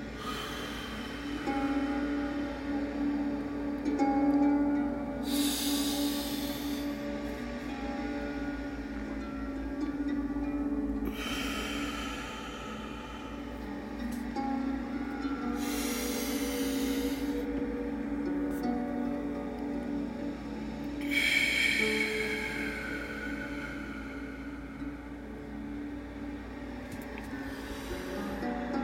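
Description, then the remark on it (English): Slow, deep breaths repeat every few seconds, airy inhales through the nose followed by long exhales through the mouth, clear over a soft, steady musical drone with no talking. “Just like any other episode, we're going to begin this episode with breathing. In your nose.”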